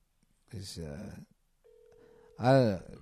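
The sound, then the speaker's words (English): A phone line's ringing tone sounds once as a steady, moderately loud electronic buzz lasting under a second, sandwiched between bursts of people talking. “Maybe he'll pick up this time. It's ringing.”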